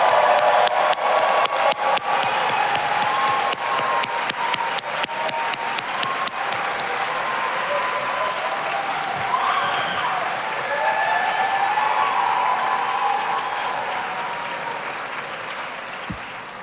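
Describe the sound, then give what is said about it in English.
Sustained applause from a large audience for the Executive Master of Public Administration and Master of Public Administration graduates of the Cornell Jeb E. Brooks School of Public Policy, class of 2023: dense steady clapping with some cheering and whoops rising through the middle, holding loud for about sixteen seconds before easing slightly at the end. “Please join me in a round of applause for our Executive Master of Public Administration and Master of Public Administration graduates.”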